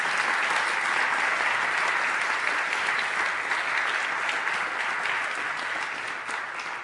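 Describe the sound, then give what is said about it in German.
An audience at a baptism service applauds to thank the helpers, steadily for about seven seconds, a dense, bright wash of many hands clapping at once that stays loud throughout and eases slightly toward the end. “Ein ganz großes Dankeschön und ich glaube, das hat auch einen kräftigen Applaus verdient.”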